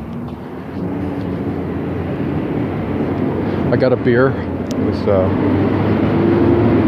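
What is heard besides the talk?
garbage truck passing outside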